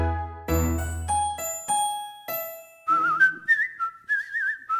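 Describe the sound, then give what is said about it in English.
A few bright chime-like notes ring out, then a person whistles a quick, warbling birdlike tune in short trilling phrases, imitating a robin's song, clear with no talking. “Little Robin Redbreast came to visit me. This is what he whistled, tweedledee-ledee.”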